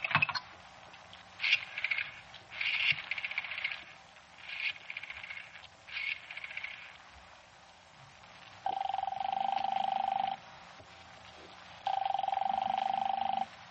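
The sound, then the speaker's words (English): A string of short, uneven dialing tones as the number 4087 is dialed is followed by two long, steady telephone rings with a pause between them, heard clearly, with no voices. “Give me the phone.”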